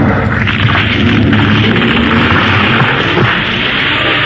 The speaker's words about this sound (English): Lightning had struck a tree just up the trail ahead, and if he hadn't stopped when he did, well, we'd have been pinned under.